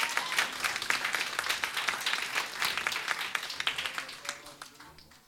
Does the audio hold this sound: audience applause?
yes